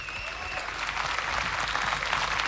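Sustained applause from a large festival audience, given in memory of radio man Manuel Araneda, a dense, steady clatter of many hands clapping that swells slightly louder as it goes on, with no talking over it.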